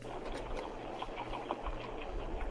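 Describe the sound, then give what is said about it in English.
Players Extreme Caramel vodka is poured into a glass, a steady trickling gurgle with small splashy bursts over a low, constant hum. No one speaks. “Damn, I hear her pouring it.”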